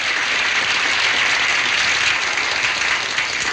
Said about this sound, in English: claps, delighted.